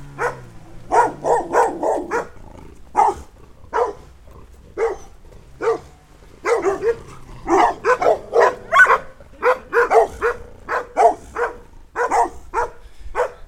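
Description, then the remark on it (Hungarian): Several dogs bark repeatedly in quick, overlapping bursts, loud, keeping up an agitated chorus for the whole stretch, along Harkály Street on the outskirts of Tura, where the road is sandy. “És a túratársak azt mondták, hogy ezeket a kutyákat úgy nem nagyon simogatnák meg.”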